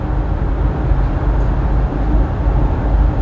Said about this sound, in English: Like having a really fast car, like that Mustang. With race drives and a really loud engine and it goes really fast.